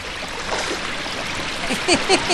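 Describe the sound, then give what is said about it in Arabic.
Big ocean waves rush and churn in a steady, dense roar of water at a beach that fills the whole clip, with a few brief high chirps rising over the surf near the end. “يا إلهي ما أعظم هذا الموج.”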